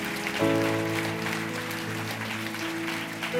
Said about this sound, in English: Let's give these guys a huge round of applause. Come on. Awesome.